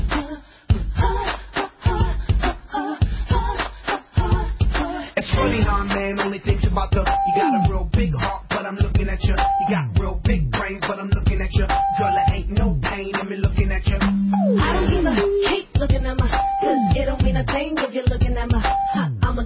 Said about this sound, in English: Well, it sounds like all those beeps. It sounds like something Van Jones was saying about the Republicans, and they caught it on tape.